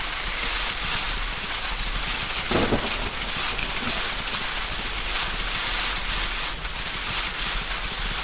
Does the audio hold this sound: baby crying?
no